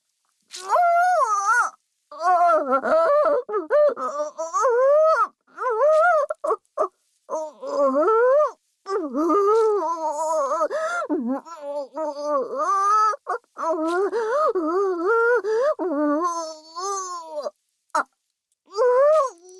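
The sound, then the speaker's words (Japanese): A human voice imitates a cow's moo in a long string of drawn-out, wavering, fairly high-pitched calls, broken by short pauses, with no other talk. “この声は、牛さんのモノマネです。”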